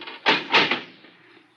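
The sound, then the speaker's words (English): A heavy door being opened: two loud, rough scraping bursts in quick succession, then a lighter third knock, fading into a faint low hum. No one speaks. “Door's not that heavy”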